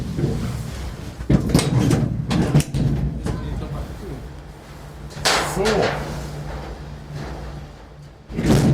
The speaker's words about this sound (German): Ihr hattet gerade ein bisschen Eindruck von der Geräuschkulisse hier, Türen zu und alles. Ich dachte, jetzt wäre hier irgendein Geratter oder so zu hören. Tut's gar nicht. Erstaunlich leise.